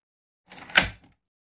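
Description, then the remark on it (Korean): A key turned in a door lock clicks it open: a short metallic rattle builds into one crisp, sharp click that dies away within a fraction of a second. No voices are heard. “지금 그는 입만으로 몸을 부지하고 있었는데 필요에 따라 자물쇠가 열리는 찰깍하는 소리에 제정신이 났다.”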